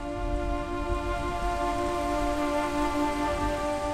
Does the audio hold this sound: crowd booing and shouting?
no